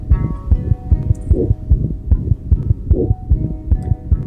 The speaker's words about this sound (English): She puts together songs. She puts together things that are being done and produced by Heartbeats. She is putting together little heartbeat songs like this. Take a listen.